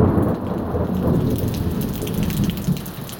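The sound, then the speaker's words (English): Heavy rain from a thunderstorm pours steadily around a covered porch while a deep, rolling rumble of thunder runs underneath, a constant dense wash of storm noise with no voices. “But other than that, this porch does a pretty good job of keeping out the rain.”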